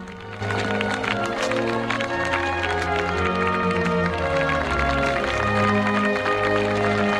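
A crowd breaks into steady, dense applause, many hands clapping at once and holding at a loud, even level, with murmured voices and cheers woven through the clapping.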